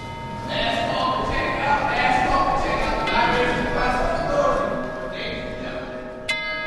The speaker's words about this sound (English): We couldn't really go around and just say, you know, well, we could, you know, like the library's closing, but this brings a little bit more to it, you know, when they hear the chimes, like, okay, like a clock.